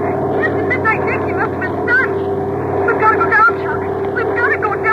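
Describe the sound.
A steady, loud propeller-engine drone of a dive bomber runs throughout, with muffled, indistinct voices chattering over the continuous roar.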